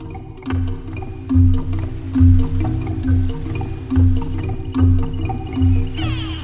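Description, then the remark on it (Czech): A flying carpet carrying Koko and Kiri plunges into a lake during strong gusts of wind, followed by steady, rhythmic underwater gurgling and bubbling with occasional drips, fairly loud throughout, ending in a brief hiss of water. “Blup! Koko, Kiri i prostirač spadu u vodu.”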